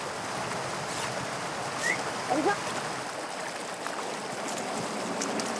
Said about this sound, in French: Ici c'est donc la rivière qui est déviée, donc c'est le Bief, donc l'autre, la rivière passe par là.